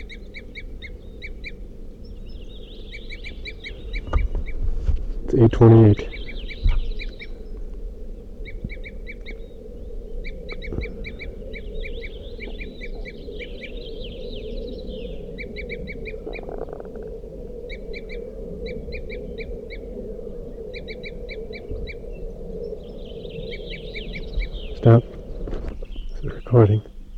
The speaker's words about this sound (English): It's about 8:35 now, and there are a few calls. Two birds. They just flew to another tree right near me. Two crossbills.